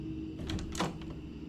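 Several knocks in quick succession by a man on the door of a room, muffled, with a sharper thump at the very end and no voices.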